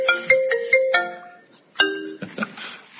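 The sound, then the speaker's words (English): A bright electronic alert tone from an iPad rings out in a courtroom in a quick melodic series of chiming notes, fairly loud, followed by a second burst and faint room noise. “It was my iPad. It was not my phone. I apologize.”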